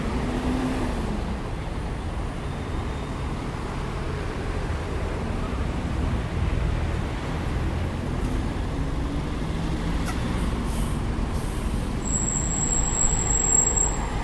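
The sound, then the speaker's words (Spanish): Steady roar of open city street traffic in front of the cathedral, between it and Plaza de Mayo, then near the end a sharp, high-pitched squeal from a bus cuts through for about two seconds, reaching 93 decibels. No one speaks. “Ese sonido agudo que ustedes escucharon recién de un colectivo llegó a 93 decibeles.”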